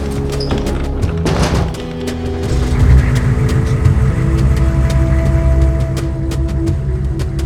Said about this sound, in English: a car approached the turnoff. It went by without even slowing and vanished behind a low rolling hill of the desert.